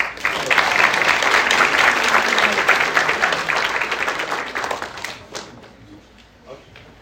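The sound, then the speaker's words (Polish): An audience applauds the third-place winners at a competition awards ceremony with steady, dense clapping for about five seconds, then the sound thins out into a few scattered, fading claps. “Jeszcze raz brawa.”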